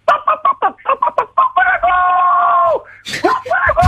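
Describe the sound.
A man imitates a pig: a run of short, choppy grunting squeals, then one long, high, strained squeal held for about a second before trailing off, with a few more squeaky bursts after.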